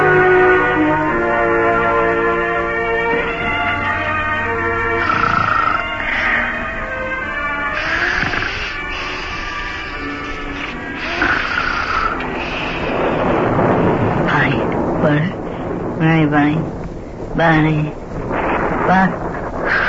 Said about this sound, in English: It's still raining. Boy, and Bunny's still outside in that storm.